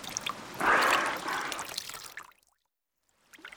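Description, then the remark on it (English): Water is poured onto a dolphin stranded on a beach in a steady, splashy gush that swells, runs for about two seconds, then stops, followed by a short quiet gap and a brief final splash. “we must pour water on the dolphin, but we mustn't pour water in its hole.”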